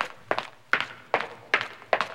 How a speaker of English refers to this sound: breathing in time to the sounds of her footsteps on the pavement. All the houses made hushy silent sounds because it was a thick night at 3 a.m.